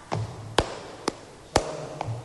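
Palmas sordas: soft, muffled flamenco hand claps, five dull strikes at an uneven pace, with a low hum underneath and no voices.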